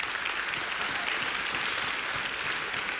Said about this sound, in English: And it's in God's sovereignty that He chose to bless this country with the thing called freedom. So we can clap at that.